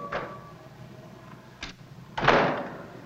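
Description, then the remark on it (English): A hotel room door opens as someone enters: a brief rustle, a sharp latch click, then a louder whooshing sweep as it swings open, with no voices. “A blonde lying on a bed aims a pistol at the door. Come in.”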